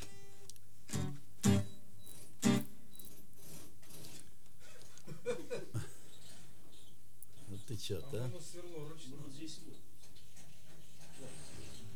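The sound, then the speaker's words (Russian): Three short, loud bursts of a power drill whir near the start, followed by people talking over a faint steady mechanical hum. “Сверло, ну, конечно, это хреново для записи, ну, это не годится.”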